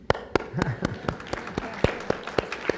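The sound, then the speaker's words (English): Sparse, uneven audience applause for a question: roughly a dozen sharp, crisp handclaps spaced irregularly over a few seconds, with a faint murmur of voices underneath. “I want to, that applause was also for the question.”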